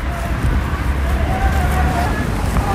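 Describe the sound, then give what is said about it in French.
Steady outdoor wind in Mons-en-Barœul, France, pushing tear gas, rumbles against the microphone in a continuous low roar, with a faint murmur of voices underneath throughout. “Voilà, c'est la faute du vent, hein, s'il est... qui pousse les gaz lacrymogènes, si les enfants roms ont les yeux rouges, pas que les enfants.”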